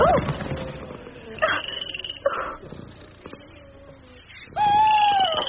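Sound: owl hooting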